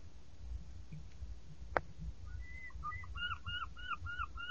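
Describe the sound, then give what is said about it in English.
Birds call in a quick series of short, rising-and-falling chirps, repeated rhythmically over a low background rumble, with a single sharp tap just before they start. “More birds this year.”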